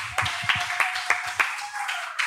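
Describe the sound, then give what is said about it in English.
Steady, evenly spaced audience clapping welcoming a panelist, about seven or eight sharp claps in a slow rhythm, over a faint continuous hum and background murmur. “Let's receive with another warm applause to Sarah Solstice, please.”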